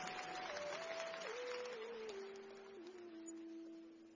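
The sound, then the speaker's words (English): An audience claps hands for the Lord in a dense, steady burst of applause while sustained organ-like notes step downward in pitch underneath, the clapping thinning and fading toward the end. “Give the Lord a big clap of hand and take your seat.”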